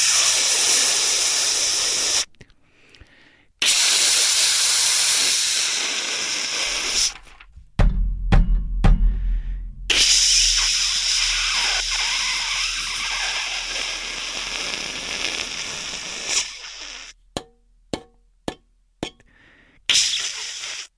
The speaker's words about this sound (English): Sorry, name that tune. That's my fucking radiator in New York City.